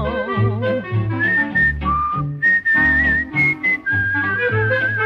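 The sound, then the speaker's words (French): A man whistles a cheerful tune while shaving, clear, his melody gliding over a bouncy instrumental accompaniment that plays steadily underneath for several seconds. “Chaque matin, je siffle en me rasant.”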